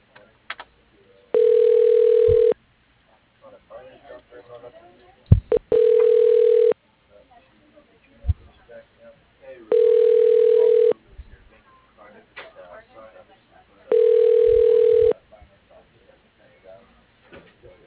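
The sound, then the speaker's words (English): A telephone ringback tone during a call transfer at the firm R.L. Jeffries & Sons sounds four times at steady intervals, each a long flat electronic burp about a second long, with faint background clatter and soft knocks between rings. “Your call is being transferred.”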